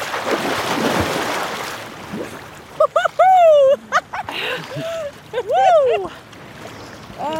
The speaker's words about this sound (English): together, sometimes as a New Year's Day tradition, and jump into the freezing ocean. Ready, guys? Oh, yeah. Gonna walk in. Walk in with intention. Well, people are now doing this all year round. It's called cold plunging.